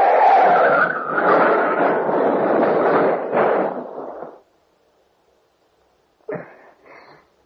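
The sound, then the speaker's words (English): A car skids off the road into a ditch with a rough, screeching roar of tires for about four seconds, then cuts off into silence before two short, jolting thuds of impact as it turns over. “Don't touch that wheel! Out in the ditch!”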